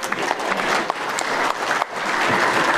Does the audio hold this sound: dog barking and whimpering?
no